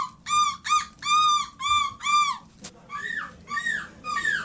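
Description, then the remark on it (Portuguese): Men and women competing in a European seagull-imitation championship imitate seagull calls: a rapid series of loud, nasal squawks, about five in a row, followed by several shorter rising cries, with no talking. “então submeter à vossa apreciação esta mescla de participantes no 5º campeonato europeu de pessoas que imitam gaivotas.”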